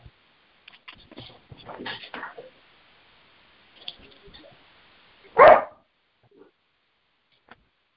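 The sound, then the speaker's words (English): A single loud dog bark rings out, following a stretch of soft scattered clicks and quiet background murmuring, then silence with a couple of faint ticks. “The dog barked.”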